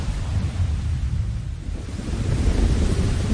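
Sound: thunder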